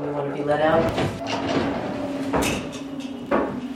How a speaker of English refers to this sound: The door slides closed behind me as I walk into a 10 feet by 12 feet gray cell.